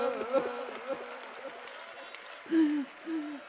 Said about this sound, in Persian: صدای کف زدنتون مثل نقل پاچیدن و سنگ پاچیدن.